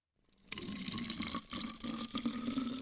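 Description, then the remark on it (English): Water pours steadily into a water bottle for a few seconds, a continuous splashing rush with a faint rising tone as it fills, fairly loud, with no voices. “And fill up our pretend water bottles.”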